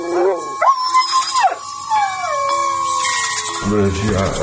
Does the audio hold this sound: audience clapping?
no